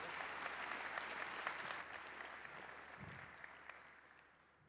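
A crowd applauds steadily, a dense crackle of many hands clapping that holds strong for a couple of seconds, then gradually thins and fades out.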